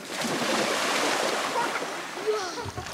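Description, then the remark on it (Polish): Steady, churning splashes as several children run into the shallow water of a lake on a count of three-four, with the surf-like rush filling the whole moment and a few faint voices rising near the end. “Dobra, uwaga dzieciaki, na 3-4 będziecie wbiegać w wodę, dobra?”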